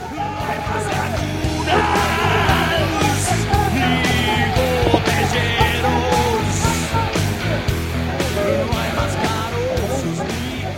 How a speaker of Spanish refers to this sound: Los estudiantes dan gritos a la policía para que se detenga, avisándole de que hay otro policía aquí.